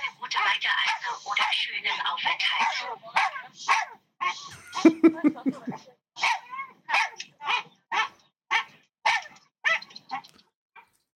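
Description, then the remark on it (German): A small dog on board an airplane yaps and whines repeatedly in short, high bursts, starting in a busy stretch and then settling into a steady series of separate barks. “auf jeden Fall war plötzlich ein Hund an Bord”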